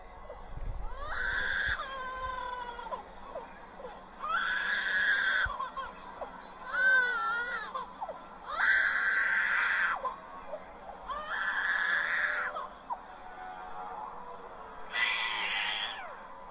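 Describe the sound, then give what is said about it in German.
A lyrebird at a zoo mimics a crying baby, producing six wailing, cry-like bursts of about two seconds each, separated by short pauses, loud with no talking. “Das war also das Babygeschrei.”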